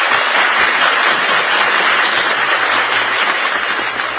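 A studio audience applauds loudly and steadily, dense clapping filling the whole stretch without a break. There's no clear cheering or voices, just continuous applause.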